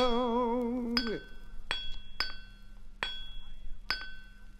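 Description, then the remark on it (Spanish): A sustained sung note with vibrato gives way to five sharp, ringing hammer blows on a metal anvil, struck at a steady, unhurried pace, each leaving a bright metallic ring. “Ai, el martillo con él.”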